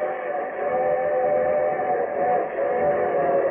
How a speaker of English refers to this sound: And here comes the summer show train.